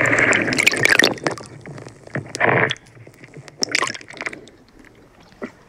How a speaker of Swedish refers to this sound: Ja, just nu är det tyst. Man hör lite vågskvalp och lite från bryggan här.